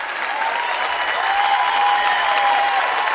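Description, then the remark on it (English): Steady, dense applause from an audience, a continuous wash of many hands clapping at an even, fairly loud level for a few seconds, with a faint sustained tone running underneath. “Some people ain't clapping.”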